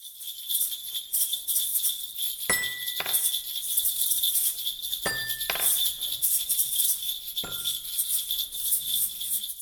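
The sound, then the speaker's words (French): A steady, dense chorus of high-pitched cricket chirping fills the background, with a few brief bright clinks ringing out at irregular intervals. “Le grillon.”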